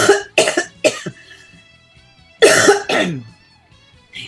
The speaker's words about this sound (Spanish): estoy con un poco de tos.